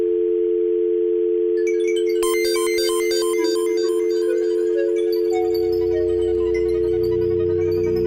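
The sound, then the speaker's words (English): A steady telephone dial tone hums without a break for the whole clip, loud, while bright beeping electronic tones and a low rumble join in partway through. No one speaks. “I see the dial tone.”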